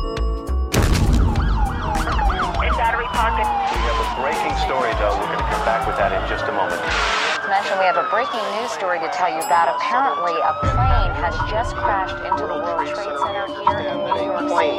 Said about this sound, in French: On voit toujours les mêmes images dans les journaux télévisés, les sirènes hurlantes et les premiers secours aux blessés.